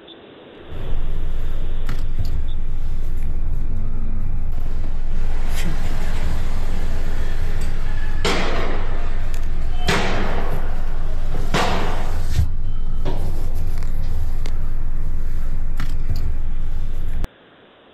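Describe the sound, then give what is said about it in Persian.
A handful of sharp, loud gunshots crack out at irregular intervals over a constant heavy street rumble, with faint voices in the background, as security forces disperse a crowd in the street in Amirabad, Kurdistan. “ساعتی بعد ما باز از همونجا از یک پزشک دیگه دریافت کرد که میگه جمعیت رو پراکنده کردن، الان همه این پزشکان دارن به کوچه‌های فرعی پناه میبرن، صدای شلیک و تیراندازی شدید در منطقه شروع میشه به شنیده شدن.”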